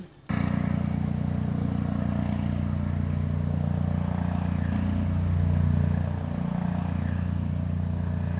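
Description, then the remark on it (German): Helicopters drone overhead, circling all day over an office, a steady, loud low rumble with throbbing engine tones that kicks in abruptly and holds for several seconds, swelling slightly before easing back. No one speaks. “Man sitzt im Büro und den ganzen Tag kreisen halt Helikopter über einem, überall Polizisten, amerikanische Aufklärungsflugzeuge und es ist krass, wenn es auch einfach nicht gewohnt ist.”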